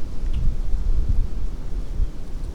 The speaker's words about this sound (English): Okay, wind's picking up. See, they said it wasn't windy.